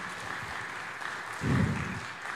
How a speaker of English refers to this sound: Well, thank you, Topher, for sharing your story. And let's give Topher a round of applause.